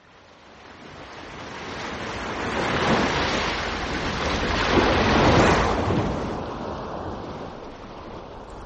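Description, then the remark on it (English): Ocean waves and surf roll in with a broad, hissing wash that swells to two gentle peaks and recedes, steady, with no voices. “The world of nature. The ocean depths.”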